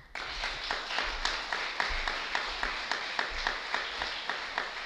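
An audience at a tournament event applauds steadily for the mother of Mateo Hernández, the dense clapping settling into a regular rhythmic beat of sharp, bright claps at a fairly loud, even level, with no talking.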